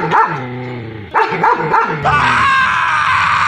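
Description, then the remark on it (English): Police K-9 dogs at the Durham Police Headquarters in Whitby bark loudly as they attack hockey player Mitch Marner: a quick run of sharp, harsh barks followed by a longer, drawn-out yelping cry, with no talking underneath. “Yeah, have you seen Mitch Marner being attacked, mauled by vicious dogs at the Durham Police Headquarters in Whitby?”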